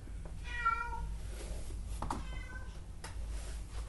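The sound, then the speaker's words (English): A female cat named Furfy meows twice, a drawn-out cry followed by a shorter one a second later, over a steady low background rumble with no talking. “And why is it still meowing?”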